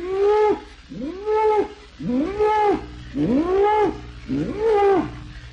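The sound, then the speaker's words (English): A cow far off in a field moos five times in steady succession, answering calling calves, each call a drawn-out, rising-then-falling bawl about a second long, loud, with no other sounds around it. “Meh, answered by the cow and the away off in the field.”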